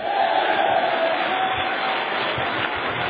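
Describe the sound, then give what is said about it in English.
A church audience claps and shouts "yes" together in a dense, steady roar of crowd noise that stays loud and unbroken throughout, with many voices blending into the clapping. “Clap your hands and shout yes.”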